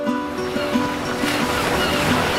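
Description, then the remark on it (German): Steady ocean surf washes over the whole stretch, with several short, tonal seagull calls rising above it at irregular intervals, heard at the opening of a pop song. “hört man am Anfang Meeresrauschen und Möwen.”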